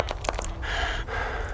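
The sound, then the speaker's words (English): Heavy breathing: a few quick, short intakes followed by two long, drawn-out rasping breaths, steady and fairly loud, with no talking. “I just wish I could get rid of this breathing.”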